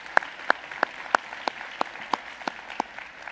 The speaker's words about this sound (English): Wow, yeah, we can clap for that.